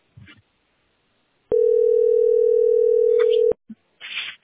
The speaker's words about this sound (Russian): Как прогресс, звонит? Ну, вон, видишь, работает, как вон, звонок идет.